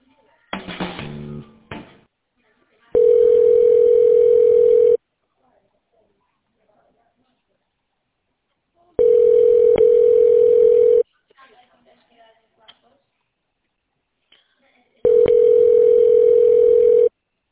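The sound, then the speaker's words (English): A telephone ringback tone sounds three times while a call is transferred to a service coordinator at Family First Home Care, each steady electronic tone lasting about two seconds with long silent gaps between, clear and fairly loud, after a brief burst of handling noise. “Give me one moment, and I will transfer your phone call.”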